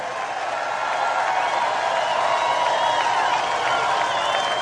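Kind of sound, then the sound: crowd, rally crowd applause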